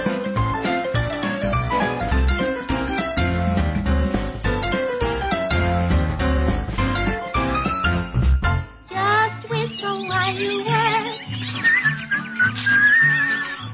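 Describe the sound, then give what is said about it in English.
A bouncy, upbeat instrumental tune with a whistled melody riding on top, played loud and continuous as working music for the Labor Day weekend; the music briefly drops around the middle before the whistling carries on over lighter backing. “My engineer, Al, has picked up some great, great working music for this Labor Day weekend, and I hope you enjoy it as much as I do.”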